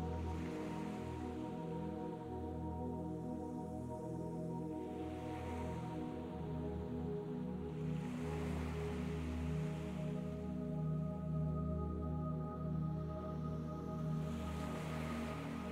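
Gentle sea waves swell and wash in slow surges every few seconds over a steady low droning hum, with no voices present.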